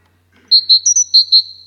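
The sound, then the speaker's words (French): A chaffinch sings a short, bright phrase of about six high, clear notes in a quick, bouncy rhythm, with no other sounds around it. “Le pinson.”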